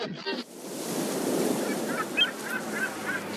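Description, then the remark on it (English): Car tires hiss and splash through water on a wet street in a steady, rushing roar, spitting street water onto a man standing beside Highway 101, with faint high-pitched squeaks scattered through the second half. “Vehement car tires spit street water across his Levi's.”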